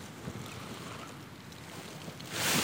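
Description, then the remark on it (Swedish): Wind blows steadily outdoors around passing rain showers by a lake, with a low, rumbling roar, then a stronger gust surges near the end, buffeting the microphone with a loud, hissing rush. No one speaks. “Nu kommer det blåst också.”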